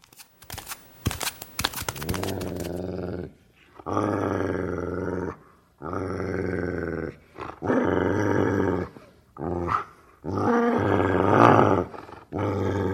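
The village chief's dog, Gomdong, growls low and menacingly at a newly arrived dog in several long, rumbling bursts separated by short pauses, fairly loud, after a brief flurry of sharp rattling noises at the start.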